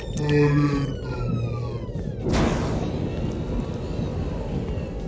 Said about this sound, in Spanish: ¡Atención! ¡Atención! ¡Alarma máxima! ¡Máxima alerta!